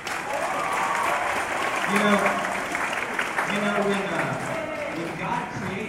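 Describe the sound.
A crowd applauds steadily for several seconds to welcome the women present, a dense wash of clapping with cheers and voices rising through it, loud throughout.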